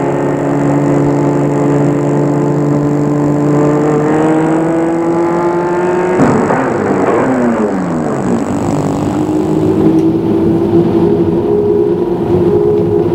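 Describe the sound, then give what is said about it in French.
A car engine hums steadily as the car arrives at a hotel at the Lac de Montrion, its tone dipping as the vehicle slows around the middle, then settling into a lower, even idle-like drone to the end. No one speaks. “Elle sort de voiture.”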